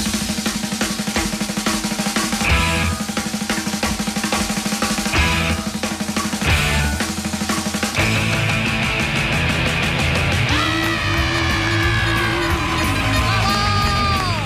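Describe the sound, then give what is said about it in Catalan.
A class of students, third-year ESO D of the Institut Lluís Companys in Ripollet, cheering and yelling together, a loud, continuous wash of overlapping shouts and whoops with some clapping mixed in, sustained throughout. “Aplaudeixen, però tampoc no gaire, els nois de Ripollet, de l'Institut Lluís Companys.”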